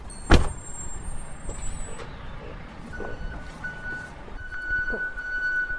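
A fire engine arriving at a central fire station rumbles in with a steady low engine drone, a sharp burst of air-brake hiss at the start, and thin high electronic beeps sounding over the noise later on.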